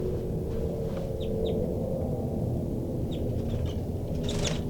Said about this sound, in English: I'm in the cell now, and most of the birds are giving some calls.